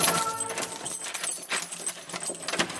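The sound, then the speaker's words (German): The head of the Falk society unlocks the door of Weimar's smallest museum, devoted to Johannes Falk, at Luthergasse 1a: keys jingle and scrape in the lock, with a run of irregular bright metallic clicks and rattles over about three seconds. Nobody speaks. “der Chef des Falk-Vereins, schließt uns die Tür auf.”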